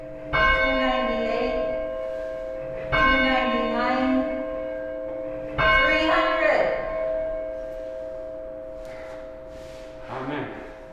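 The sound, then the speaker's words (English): A large church bell in Sitka, rung by church members, tolls three times at a slow, steady pace, each strike ringing out and decaying into a long resonant hum, with faint murmuring voices near the end. “Church members rang the bell in September 200 times for 200,000 lives lost, and they'll do it again for 400,000.”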